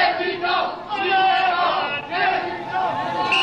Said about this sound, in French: Dès 20h, dès l'appel de Lionel Jospin, une foule immense s'était rassemblée sur la place de la Bastille. Mitterrand, président, Mitterrand, président, Mitterrand.